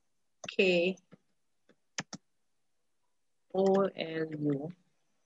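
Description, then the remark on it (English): A few sharp keyboard taps, two of them loud and quick together, as someone types an author's name into a chat, fall in a quiet gap between stretches of a voice humming or murmuring. “I'm typing in the name.”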